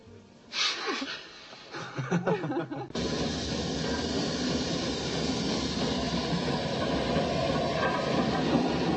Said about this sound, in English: Train arriving at Plattridge. The overnight flying spot, Aberdeen.